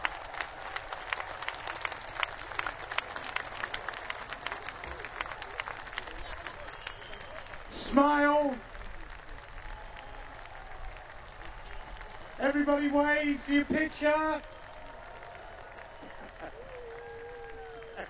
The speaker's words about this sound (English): Big cheer. Well done. Well done, fantastic.